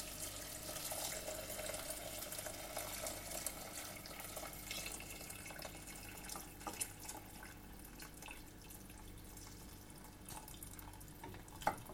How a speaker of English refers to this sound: Right, now those have been in for about 5 minutes. They're nice and soft now because there's all the veg. What I'm going to do is I'm going to pour in my vegetable stock.